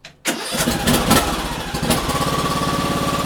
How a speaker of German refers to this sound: Mit einigen PS unter der Haube, mit einem Aufsitzrasenmäher, eine größere Fläche mähen gerne auch für die Nachbarn gleich mit, sozusagen im Sinne der guten Nachbarschaft.